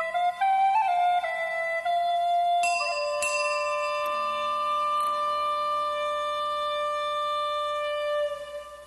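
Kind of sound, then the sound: sound effect, funeral bell tolling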